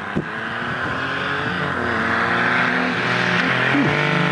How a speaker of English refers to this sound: Now, you said it sounded like a Porsche. Yes. An inline three? That's kind of interesting. The exhaust note sounds exactly like an air-cooled Porsche six-cylinder.